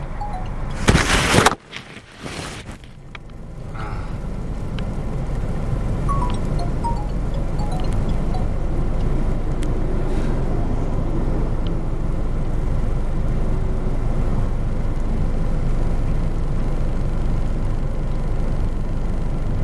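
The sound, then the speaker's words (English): Steady low rumble of road noise inside a car driving in Penrith, a constant engine-and-tyre drone after a couple of sharp knocks at the start, with no one talking. “sorry, this car nearly pulled out in front of me. The vagaries of driving in Penrith.”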